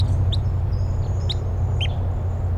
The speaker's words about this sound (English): Recording, I hear type 3 crossbills, wild ones flying over.